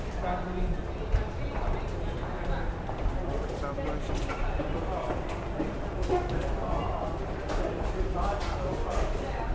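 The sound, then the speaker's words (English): Busy train station ambience with a steady low rumble, like a train moving, scattered clattering and knocking, and a murmur of voices throughout. “Guys, we actually go and you went to the train station.”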